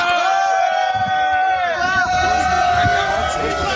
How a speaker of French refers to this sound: Alors ça, ce sont des sifflets adressés au ministre de l'Agriculture, Stéphane Le Foll, lors de sa visite aussi au Salon de l'Agriculture. Dure épreuve pour lui, notamment.